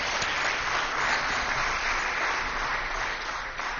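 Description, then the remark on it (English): An audience claps for a shofar blowing, a dense wash of many hands sustained at an even, fairly loud level for several seconds, with no voices. “Yeah, someone wants to clap. You can clap for it.”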